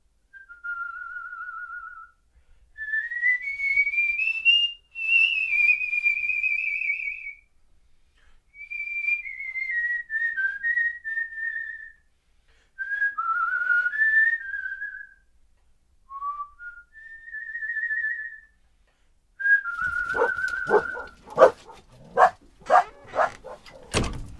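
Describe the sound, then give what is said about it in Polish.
A person whistles a wandering melody in several clear, sustained phrases separated by short pauses, fairly loud; near the end, a burst of sharp dog barks breaks in. “Chodziłem gwizdząc po całej Warszawie.”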